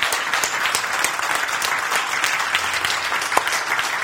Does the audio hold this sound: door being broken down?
no